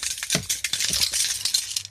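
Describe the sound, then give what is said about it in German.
A bunch of keys with a heavy brass pendant jingles and clinks continuously, with bright overlapping metallic rattles and a few sharper knocks, no voices. “Ich habe auch einen Schlüsselbund. Und du, ich habe da so einen Messinganhänger. Hörst du das?”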